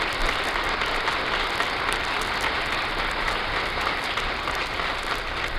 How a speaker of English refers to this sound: The applause is for the President, who has just entered the East Room.